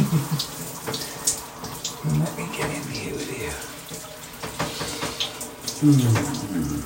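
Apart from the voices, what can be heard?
shower water running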